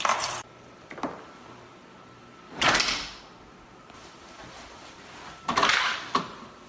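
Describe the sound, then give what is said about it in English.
A heavy metal fire door that shuts automatically slams shut several times in an apartment building, each hit a loud, broad clang with a short ringing decay, separated by a few seconds of quiet. No one speaks. “Okay, you can't hear it at the beginning, but you can hear it with the shutting that's one of those heavy metal doors.”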